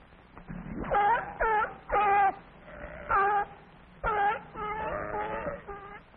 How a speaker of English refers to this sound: S is for sea lion. Let's listen to it bark.